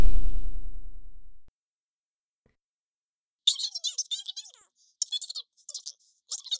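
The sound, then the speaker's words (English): Keys jiggle and rattle in a locked door in several short, bright metallic bursts, following a low fading hum and a moment of silence. “here's the key. Door's locked.”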